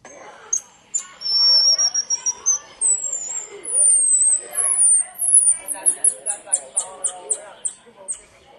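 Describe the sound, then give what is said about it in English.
A small monkey gives high, bird-like whistling calls: long gliding tones at first, then a quick run of sharp repeated chirps, over a dense, busy background of lower chattering sounds. “So let me play this for you again. Keep in mind, this is a little monkey.”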